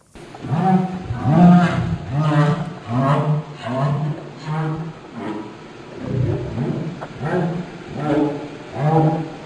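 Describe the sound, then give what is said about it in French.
A humpback whale's social communication calls: a run of low, moaning, harmonic grunts and groans in uneven bursts, loud, with no talking over them. “Et tout de suite, on va écouter le son, pour le coup, qui relèverait plus d'une communication sociale, toujours d'une baleine à bosse.”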